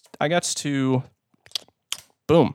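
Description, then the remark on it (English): A few quick keyboard clicks tap out between stretches of voice, sparse, with brief pauses between the keystrokes, as links, including an Amazon link, are typed live. “Typing links, doing it live.”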